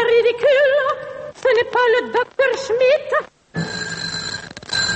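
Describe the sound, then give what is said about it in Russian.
Bursts of warbling, trilling electronic telephone ringing repeat several times, part of a telephone sound composition by director Marina Smirnova Fretzi, then give way to a hissy line with faint steady tones. No one speaks. “Это уже телефонная композиция моего акустического соавтора, режиссера Марины Смирновой Фрэтци.”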